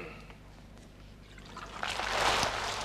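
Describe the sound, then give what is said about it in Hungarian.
Water runs from a tap as a man is put under it, starting as a soft trickle and swelling into a steady, hissing gush partway through. It sounds on its own, with no talking. “Gyerünk a csap alá, öreg.”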